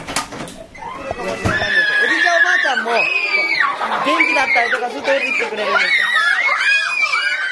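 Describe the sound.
A roomful of young children at a preschool combined with a nursing home, screaming and running around, shrieking and yelling over one another, loud, their high-pitched voices rising and falling in a continuous, chaotic din.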